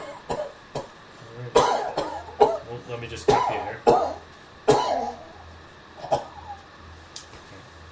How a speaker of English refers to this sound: Excuse is... me one second, I got a cough.